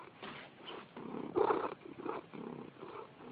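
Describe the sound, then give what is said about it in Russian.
A cat purrs steadily in a low, rumbling, rhythmic pattern, with each breath making a distinct pulse. One pulse midway is slightly louder and raspier. No voices are heard. “О, теперь мургается.”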